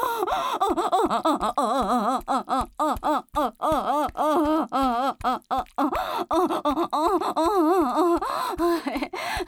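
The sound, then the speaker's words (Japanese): Heavy, aroused breathing during sex, with sharp gasps and voiced moaning sounds, repeated in quick irregular bursts, fairly loud throughout, with no spoken words. “息遣いを聞いてたら分かるぞ。”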